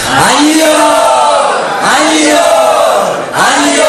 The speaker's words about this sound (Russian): Вот, и когда мы приходим в это место, мы очень громко кричим аньор, давайте все вместе.